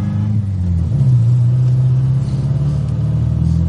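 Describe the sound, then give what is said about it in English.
A car engine accelerates with a loud, steady low rumble. Its pitch steps up about a second in, then holds a strong, droning growl throughout, with no voices present. “Yeah, yeah, come on, put your foot down.”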